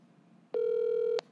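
A phone call dialing out on speakerphone: one steady, loud electronic tone lasting under a second, starting and stopping abruptly over a faint background hum, with no one talking.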